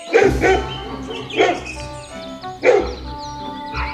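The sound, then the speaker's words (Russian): A pack of dogs, led by the dog Kashtan, bark in loud bursts, four sharp barks spaced roughly a second apart, over a steady tonal background, as they rush across a yard at a monkey. “Ой, откуда ни возьмись, вся стая собачья.”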